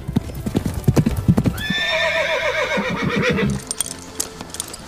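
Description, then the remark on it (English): Horse hooves clip-clop in a quick, steady rhythm, then a loud, wavering neigh rings out for about two seconds before the hoofbeats continue, clear. “I will learn how to ride a horse.”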